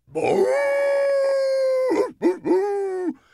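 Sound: dog howling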